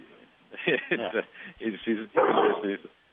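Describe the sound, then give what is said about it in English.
A dog barks in several quick bursts, sharp and fairly loud, with a brief rougher yelp near the end, while a person's voice is also present. “And my dog's all for it too.”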